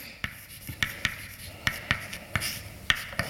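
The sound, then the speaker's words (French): Writing a capital T, for a transformation T, on a board during a mathematics lecture: a quick, irregular series of about a dozen sharp taps and short scratchy strokes, fairly soft, with no one talking. “on peut faire un calcul qui montre que ça revient à appliquer à A une certaine transformation que je vais noter grand T et que je vais écrire.”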